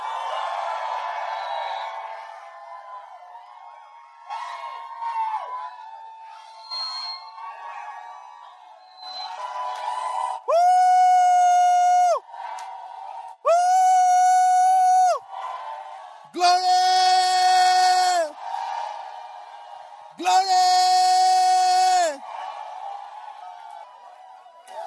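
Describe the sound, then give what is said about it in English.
A crowd of voices shouts together in four long, loud, sustained bursts, each a steady held cry lasting a couple of seconds, following a stretch of murmuring and scattered calls. “Shouting. Shouting. Please, can you shout?”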